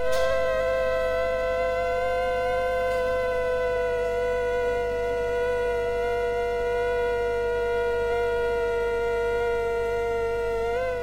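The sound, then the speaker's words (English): Two mosquitoes of different forms, placed close together, drone with their wingbeats as a steady, high buzzing whine with stacked harmonics that stay slightly out of step and do not match, wavering without locking into sync, alone and continuous throughout. “But now listen to this sound file, and this is two different forms of mosquitoes being placed close together. And their harmonics aren't matching.”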